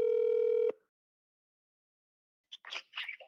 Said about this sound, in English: This phone is ringing.